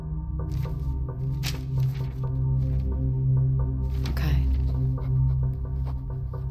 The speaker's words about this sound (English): No. No, it's something else. Listen. Oh my god. What? What? It's Morse code.